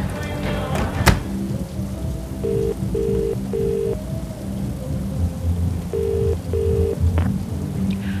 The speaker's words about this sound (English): it's raining! Yeah, no, I'll be okay.